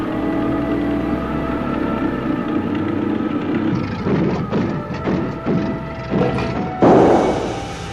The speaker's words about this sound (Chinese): 自己则和其他的乘客一同挤在了敞篷货车上，迎着朔北的寒风颠簸前行。